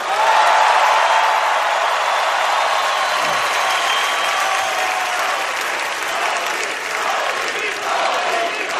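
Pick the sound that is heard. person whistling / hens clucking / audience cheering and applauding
audience cheering and applauding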